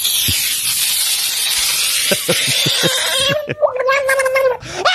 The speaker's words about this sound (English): Screaming frog in water.